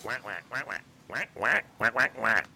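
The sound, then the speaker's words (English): A cartoon duck voice, the character Quacky, quacks and squawks in a quick run of nasal, buzzy bursts, fairly loud, like someone doing a duck imitation. “Thanks, Quacky. I almost forgot.”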